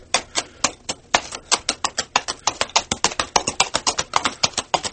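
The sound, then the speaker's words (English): Two carved-out coconut shells with straps, struck down in dirt, clop out a horse's walking gait: a long, steady run of sharp, hollow knocks, several per second in an even rhythm, with no voices. “And we put them right down in the dirt, and we start walking the horse.”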